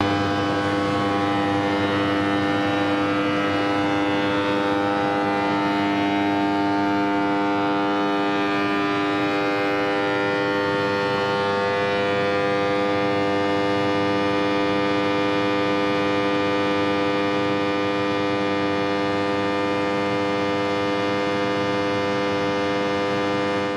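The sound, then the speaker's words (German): A steady, loud industrial drone from the hydroelectric power plant at Ottmarsheim on the Rhine, with dense stacked harmonic hum tones and a low rumble holding constant throughout, no voices present. “Und jetzt spielen wir ein etwas geräuschigeres Stück. Und es geht um das Wasserkraftwerk in Ottmarsheim am Rhein.”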